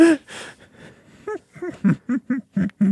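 A voice performs a dramatic gasp: two loud, breathy intakes of air, followed by a quick run of short, voiced huffing breaths.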